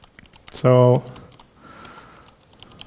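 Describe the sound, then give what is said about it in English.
Soft, irregular keyboard clicks tap away at low volume as someone edits text in the Vim editor, interrupted by a short, loud buzzing tone, then faint typing continues with a low murmur in the background. “So change word, I just change the delete here and it enters the insert mode and I can type along.”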